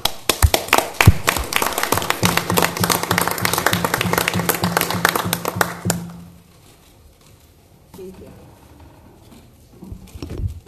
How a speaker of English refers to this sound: the Sheriff's Department and Captain Decker stepped in and did an exemplary job, and I do think they deserve a round of applause.